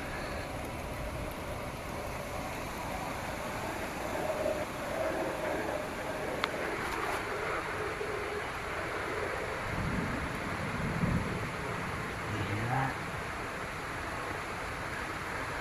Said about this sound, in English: As you can tell, it's raining and not even severely thundering. A few rumbles here and there.